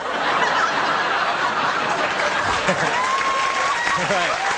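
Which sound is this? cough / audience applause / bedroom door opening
audience applause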